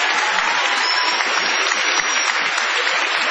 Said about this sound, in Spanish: Aquí estamos en nuestro pequeño galponcito de la calle Gorriti, con mucha gente amiga que ha llegado hasta aquí. Muchísimas gracias. Extendamos el aplauso